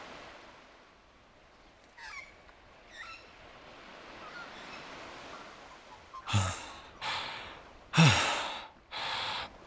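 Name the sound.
ocean waves crashing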